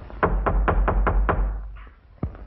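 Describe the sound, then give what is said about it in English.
Six firm, evenly paced knocks on a house's front door in the evening, in quick succession, followed by a short pause and one more sharp knock; visitors are at the door. No voices are heard. “he stands and walks through the foyer to the door. He answers it”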